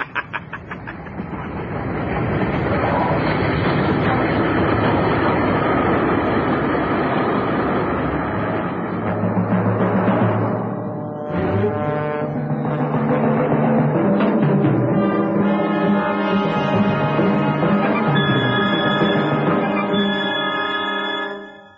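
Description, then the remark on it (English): A train rolls in with a loud, steady rumble and rhythmic clatter, then brakes squeal in high, sustained tones over the second half as it slows. No voices. “Here comes the train.”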